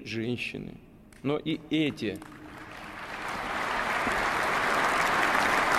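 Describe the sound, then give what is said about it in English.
A voice speaks briefly, then applause from an audience that includes a number of Russian religious leaders rises into a dense, steady wash of clapping that grows louder and carries on to the end. “You see people applauding, a number of Russian religious leaders out there.”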